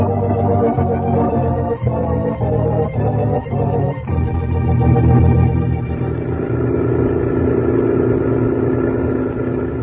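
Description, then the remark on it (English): A heavy truck engine drones steadily and loudly as it drives, a low rumbling hum with a few rhythmic bumps early on, then the engine note rises slightly and holds. No voices. “He's tilted up the headlights on the truck.”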